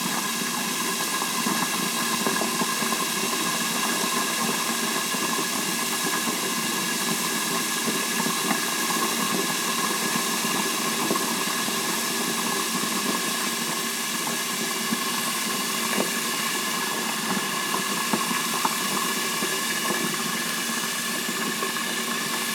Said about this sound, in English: It's really frying now, and I put that lid on there. Well, it's coming right on up.